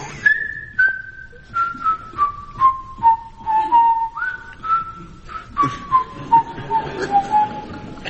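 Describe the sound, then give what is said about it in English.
Steve Race's daughter whistles in imitation of a budgerigar: a string of short, steady whistled notes that step gradually downward in pitch, broken by little chirps and clicks, with no talking. “I would say that is Steve Race's budgerigar. it's my daughter, actually.”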